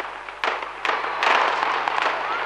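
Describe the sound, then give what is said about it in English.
Several sharp explosions burst in quick succession in the skies over Amritsar, each followed by a rolling echo that blurs into a continuous roar, reverberant across open air, with no voices. “But this time, a different kind of explosion echoed through the skies over Amritsar.”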